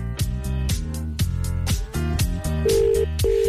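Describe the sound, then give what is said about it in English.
A telephone line rings on an outgoing call to Kilkenny: a busy, chiming electronic melody gives way to two steady, buzzing ringback tones, fairly loud, with no one speaking. “It's ringing.”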